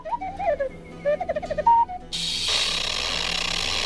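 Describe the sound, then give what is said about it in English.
Mechanical chirps and short warbling whistles flutter for about two seconds, then give way to a loud, steady wheezing hiss that carries on to the end. “Do you understand all those clicks and wheezes?”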